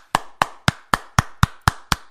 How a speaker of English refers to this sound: That's the clap you want, folks. And the best part is, you can do this at home. You can train yourself. And you, too, can get the clap. I mean the correct clap. Not that other clap.